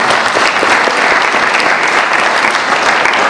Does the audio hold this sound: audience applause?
yes